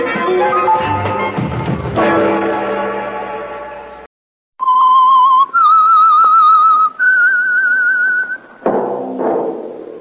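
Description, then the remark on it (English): The whistled theme tune of the Household Finance Corporation radio program The Whistler: a few long, wavering notes stepping upward in pitch, heard alone after a loud, dense burst of music and a brief silence. “That whistle is your invitation to listen to the Household Finance Corporation program, The Whistler.”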